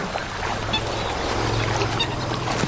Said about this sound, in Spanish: Sonidos de los elefantes en la charca.